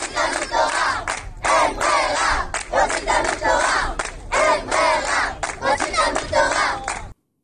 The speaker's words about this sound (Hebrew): זה מספיק לשמוע את הזקני, בואו נשמע אותם עכשיו. אני שומע את זה עוד פעם, וזה מצמרר אותי עכשיו שאני שומע את זה עוד פעם בטלפון. ממש. אז בואו תצטמרר עכשיו עוד יותר, איך הם צועקים לו, אין ברירה, רוצים תלמוד תורה, בבקשה.